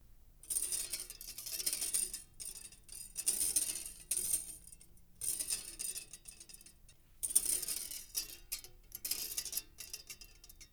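A metal whisk is rolled back and forth across the floor in front of the microphone to make a sound effect, its wires clattering and jingling in bursts that rise and fade with each roll, separated by brief pauses.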